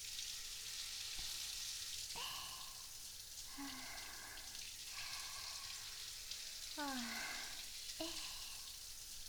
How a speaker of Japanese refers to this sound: シャワーで泡流しちゃいますね。お湯熱くないです？